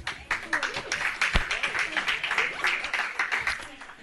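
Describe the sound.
A crowd claps steadily for about four seconds, a dense, continuous patter of many hands mixed with voices calling out and cheering.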